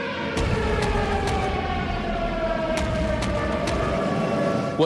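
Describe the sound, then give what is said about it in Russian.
An air raid siren wails steadily during an air raid alert, heard at Maidan Nezalezhnosti metro station in Kyiv, Ukraine, a sustained droning tone that holds throughout against a rumbling background, with a few faint clicks. “Вы сейчас слышите сирену? Да, я слышу сирену.”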